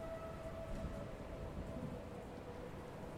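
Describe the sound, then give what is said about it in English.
Heavy, torrential rain pours down steadily while a thin, sustained wailing wind moans above it during a storm outside a convent, the storm noise constant and enveloping throughout with no voices. “The walls of the convent are bastion against the wailing winds and torrential rain outside.”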